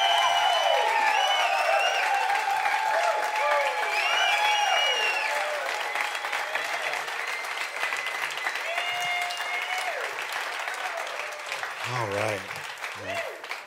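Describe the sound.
An audience at an evening Summit church gathering in Edmonton applauds steadily for over ten seconds to welcome the guest speaker, with cheers and whoops rising above the clapping. The noise eases slightly toward the end as a voice briefly speaks.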